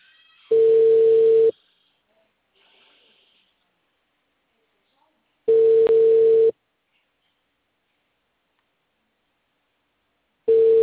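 A telephone ringback tone sounds three times before the call is forwarded to voicemail: steady, mid-pitched one-second beeps separated by long silent gaps of about four seconds, with no talking.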